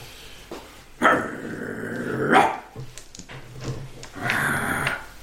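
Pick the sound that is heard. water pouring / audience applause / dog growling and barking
dog growling and barking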